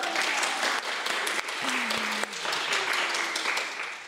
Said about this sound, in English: Can we clap to that?